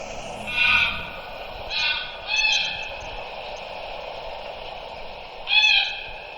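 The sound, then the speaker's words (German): A played recording of a single greylag goose calls four times at irregular intervals, each note a short, bright, harmonic hoot-like cry standing out over a steady low background hiss; no one speaks. “Ja, und das ist jetzt eine einzelne. Eine sehr minimalistische Aufnahme, aber gut, man hat es gehört.”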